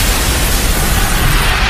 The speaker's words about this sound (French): un bâton de dynamite est lancé sur les policiers. 8 policiers sont tués et une soixantaine sont blessés.